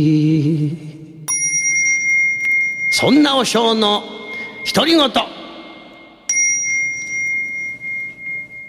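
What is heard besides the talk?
temple bell ringing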